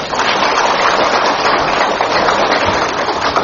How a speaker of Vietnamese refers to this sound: Và xin đặc biệt nhất là chúng ta hãy cho một tràng pháo tay